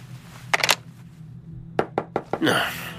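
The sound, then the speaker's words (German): Sharp knocks on a door by someone delivering newspapers come in two quick bursts, three raps followed after a pause by four, crisp over a low hum, ending in a brief rustling swish. “Ja, bitte, wer klopft?”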